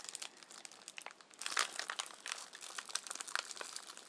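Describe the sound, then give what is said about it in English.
A sealed plastic bag holding a dog urine sample tube crinkles as someone tries to open it without ripping it, a steady stream of crisp, bright rustles and crackles that grow louder and busier partway through, with no voices. “how do we get into it without ripping the bag?”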